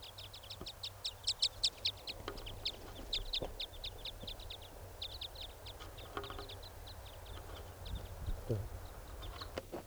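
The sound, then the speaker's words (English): A foraging bird, noted as a type 5 bird, gives a rapid series of short, high chirps, bunched in quick bursts and then spaced more loosely, over a low steady background rumble. “Trying to get the type 5 bird. Who's foraging over here.”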